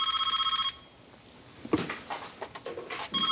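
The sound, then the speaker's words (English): A telephone rings with a bright, rapidly trilling electronic bell as an answering service puts through a call, sounding in two bursts at the start and end separated by a pause filled with rustling and faint movement. “Your service is putting through a call.”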